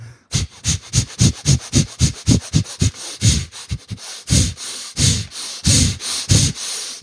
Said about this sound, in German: 10 Minuten, atmen, volle Kanne. Also es ist atmen, wie du noch nie geatmet hast.